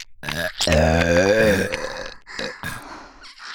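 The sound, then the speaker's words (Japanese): A long, loud, croaking burp rumbles for about a second, followed by a few softer breathy vocal sounds. “ゲップでしこれる変態さん 大好き、 大好き。”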